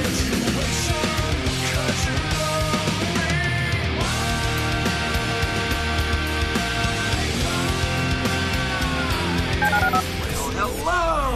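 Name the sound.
telephone keypad dialing tones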